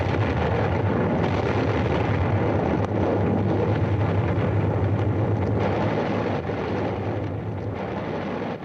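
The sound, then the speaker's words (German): A heavy, sustained roar rumbles steadily for several seconds after Dottore Diego's house explodes, dense and low with a broad noisy hiss, easing slightly toward the end with no voices. “Das Haus des Dottore Diego ist explodiert.”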